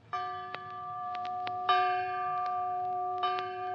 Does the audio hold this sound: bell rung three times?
yes